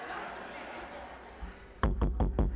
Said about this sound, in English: Now, here's what the man knows. If this fool keeps knocking on the door like that, he's going to wake everybody up in the house and stir up and cause commotion.